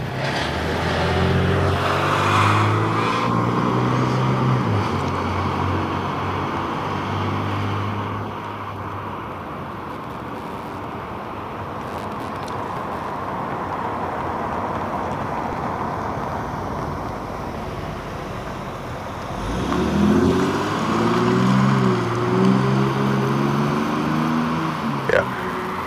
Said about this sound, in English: I had to stand on the corner anyway. I wasn't going to go in front of all of those cars. That was a lot of traffic.